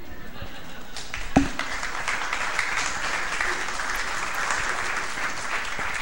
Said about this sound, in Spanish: Muy bien, esta es la parte en que los chicos aplauden.